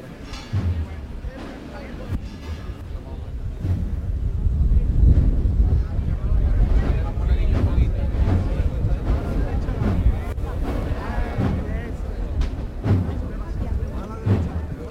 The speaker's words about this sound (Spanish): Hasta la pluma de los armados en lo alto del paso parece que quisieran aplaudir, recibiendo esa brisa que se está levantando aquí en la mañana de Viernes Santo.